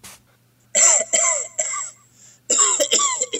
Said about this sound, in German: Was denn jetzt los? Mikrofon hustet. Ach, das Mikrofon hustet.